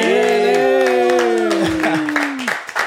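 Audience applause with steady, dense clapping, mixed with a loud sustained tone that slowly slides downward in pitch before the clapping thins out at the end.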